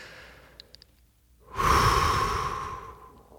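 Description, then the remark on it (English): A soft, steady breath blown out through the mouth during a breathing exercise, airy and hissing like blowing out a candle, lasting about two seconds and slowly fading, preceded by a brief quiet pause and faint clicks. “Just like you're trying to blow out a candle, nice and gently.”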